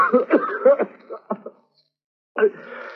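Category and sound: human body sound, coughing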